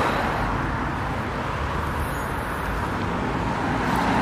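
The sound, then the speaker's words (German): Steady, loud street traffic fills the scene, a continuous roar of cars and vehicles rolling past with no pauses or speech. “Ich kann mal kurz über die Straße hier rübergehen, wenn es dann der Verkehr zulässt.”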